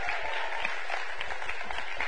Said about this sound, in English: And kids' church, you're dismissed out the back end with a big old round of applause. Amen.